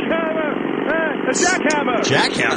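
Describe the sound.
A voice imitates a jackhammer with a steady, buzzing rattle that rises and falls in pitch in repeated bursts, loud and continuous throughout.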